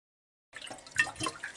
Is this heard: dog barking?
no